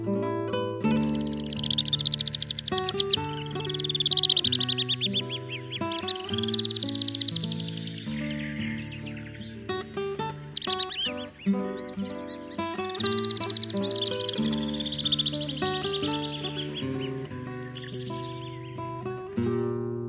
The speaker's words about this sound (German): Das war der Alpensegler.